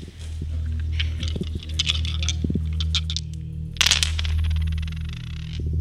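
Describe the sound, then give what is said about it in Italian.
Special dice clatter and rattle in a few quick bursts of sharp clicks, with a brief pause before a final tumbling roll, over a steady low hum, as they are rolled and read to tell the future for New Year. “Oggi lo fa leggendo dei dadi speciali.”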